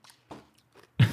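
Someone bites and chews an icy frozen treat that froze in the fridge: a few soft, crackly crunches, then a sudden loud, crisp crunch of icy chewing at the end, with no talk.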